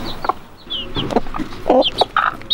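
A hen clucks softly and repeatedly in short, uneven bursts, with high thin peeps from chicks scattered between the clucks, moderately loud.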